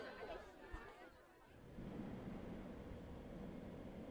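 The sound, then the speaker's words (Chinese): Busy subway ambience at a crowded hour: a murmur of crowd chatter, then a steady rumble of a train swells in and holds, with many people milling and boarding in the background, moderately loud. “一会儿呢需要坐地铁，跟紧妈妈，不要被解散了。这个点人多了。”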